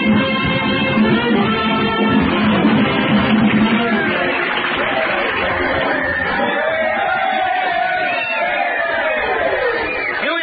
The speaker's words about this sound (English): Listen to that cheering section. Yay, Flatfoot!